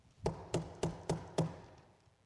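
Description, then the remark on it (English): Five evenly spaced knocks on a door in a steady rhythm, fairly soft, with no voices, followed by a short quiet pause. “But he's knocking.”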